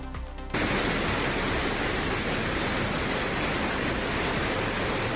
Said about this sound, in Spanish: Y en Logroño, así baja el río Ebro a esta hora.